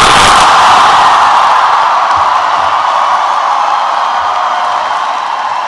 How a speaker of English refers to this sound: Handshake to the Vice President, and George W. Bush stands at the lectern to accept the enthusiastic cheers of this crowd of supporters at the Ronald Reagan Building.